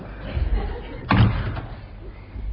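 A door slams shut once: a sharp, heavy bang with a deep thud, followed by a faint rattle against a low, murmuring background.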